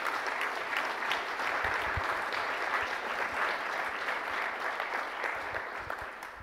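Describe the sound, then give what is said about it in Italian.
An audience applauds in a steady, dense burst of many hands clapping, sustained throughout and tapering slightly toward the end, with no voices over it. “I don't do that because I want you to applaud me.”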